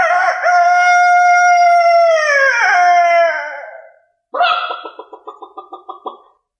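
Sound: rooster crowing loudly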